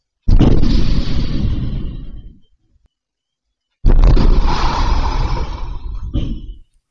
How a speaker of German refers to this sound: Zwei Explosionen innerhalb von einer Minute. Erst die Front. Und dann der Automat. Die Explosionsgeräusche, die spielen wir jetzt auch einmal ganz kurz ein.